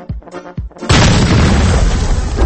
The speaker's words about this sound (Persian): نه مرگ من صدا رو داشتی؟ خب آخه فدای تو بشم من. آخه این ترقه است؟ آخه این چیه؟ این تولید صدا برای مثلا عشق و حال چهارشنبه سوریه؟ بابا این بمب بود رسمن دیگه.